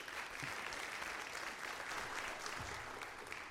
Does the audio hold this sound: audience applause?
yes